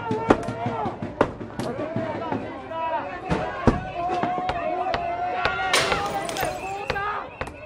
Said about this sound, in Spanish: ¿Eso es fuego? Están lanzando un molotov a la estación.